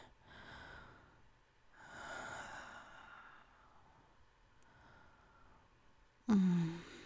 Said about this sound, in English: I think that's enough breathing on you.